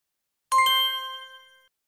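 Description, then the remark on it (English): A bright page-turn chime: two quick metallic strikes in close succession, ringing out clearly on their own and fading over about a second. “When you hear this sound, it's time to turn the page.”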